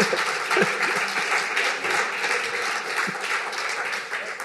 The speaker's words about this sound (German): Und Sie merken es am Beifall, dass nicht nur ich das gedacht habe.